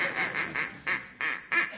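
A duck quacks about seven times in a quick, slightly uneven series, each quack short, nasal and clear, heard alone with no voices present.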